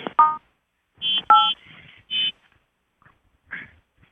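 A handful of short electronic chimes, conference call entry tones, sound in irregular bursts, some as paired or rising beeps, clear with quiet gaps between and no talking.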